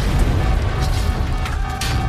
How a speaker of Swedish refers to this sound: För bara några minuter efter att planet lyfter detonerar en bomb i kabinen.